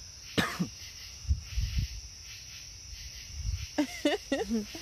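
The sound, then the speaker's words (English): A steady, high-pitched chorus of crickets chirps continuously at night, with a cough and some low thumps near the start and a voice speaking briefly toward the end. “Those are crickets.”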